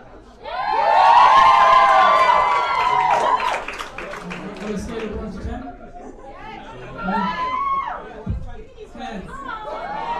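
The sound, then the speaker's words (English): A loud crowd erupts in cheering and high-pitched shouts, strongest over the first few seconds, then settles into busy overlapping chatter with scattered whoops and calls. “That's why I was definitely getting that crowd going.”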